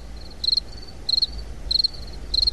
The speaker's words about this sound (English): And crickets.